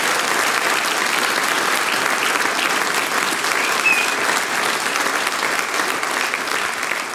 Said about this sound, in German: das ist euer Applaus.